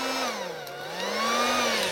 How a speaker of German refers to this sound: Ja, das ist eine Luftdusche. Also Föhn kann man auch dazu sagen, aber eigentlich ist der Name Föhn geschützt. Deswegen hat man in der DDR sich entschlossen, Luftdusche zu sagen, um irgendwelchen Rechtsstreitigkeiten aus dem Weg zu gehen.